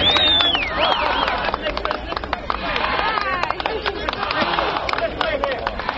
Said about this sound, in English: That's a locomotive cheer for Vice President Nixon. N-I-X-O-N.